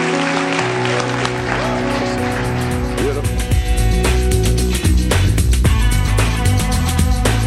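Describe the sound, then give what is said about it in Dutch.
A crowd claps steadily, the dense patter of applause running over sustained music with a deep bass line and held tones throughout. “Zullen we weer een applaus geven?”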